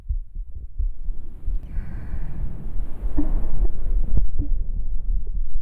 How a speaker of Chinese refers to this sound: 姐姐是鬼，这里也没有第二个人。不是你的心跳声，难道是我的吗？